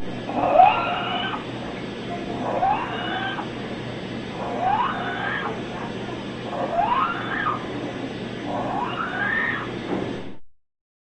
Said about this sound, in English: Situations that increase respiratory rate and depth, such as exercise and excitement, may bring on clinically obvious stridor in an animal with normal respiratory sounds at rest. Listen now to a dog with stridor.